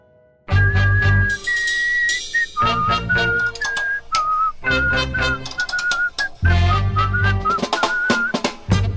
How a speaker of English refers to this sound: Here, whistle it with me.